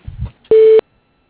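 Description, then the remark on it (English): A single loud voicemail beep at the end of an office's voicemail greeting, a steady mid-pitched electronic tone lasting about a third of a second, follows a brief trailing scrap of voice and gives way to silence. “Please leave us a clear message at the sound of the tone.”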